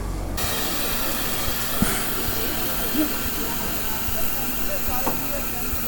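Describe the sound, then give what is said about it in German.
A class 58 steam locomotive, number 58311, hisses steadily with a broad, continuous rush of steam, unbroken throughout, while faint voices murmur in the background and a few small clanks sound; people queue to ride in its cab. “Eine lange Schlange von Leuten steht vor der Aufstiegsmöglichkeit zum Führerstand und zeugt davon, dass ein großes Interesse besteht, mal auf der alten Dampflok mitzufahren.”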